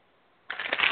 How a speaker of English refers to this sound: You're the one typing.